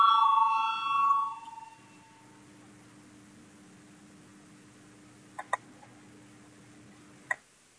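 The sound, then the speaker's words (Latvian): A short, clear electronic voting bell chimes at the start in the Saeima, Latvia's parliament, called before a vote on an amendment proposal. It then fades into a quiet, steady hum, with a couple of faint, sharp clicks near the end. “Lūdzu zvanu, balsosim par ceturto deputātu Piminova iesniegto priekšlikumu.”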